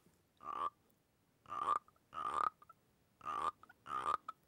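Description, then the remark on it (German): A frog called a shot-glass frog, a vodka frog, croaks five times in a steady, evenly spaced rhythm, each call a short, raspy, resonant burst, clear, with quiet pauses between calls and no voices. “Hier zum Beispiel kommt der erste Schnapsglasfrosch, das ist ein Wodka-Frosch.”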